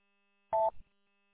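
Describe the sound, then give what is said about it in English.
A single short electronic phone ring chirps once for an incoming work call, a brief two-toned beep that quickly fades, with no voices around it. “Stand by, I got a work phone call.”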